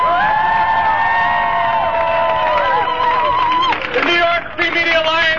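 A crowd cheers and claps loudly and steadily, with drawn-out whoops and high shouts rising over the dense wash of applause for about five seconds, applauding the New York Free Media Alliance for putting on the event.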